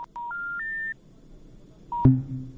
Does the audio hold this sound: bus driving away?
no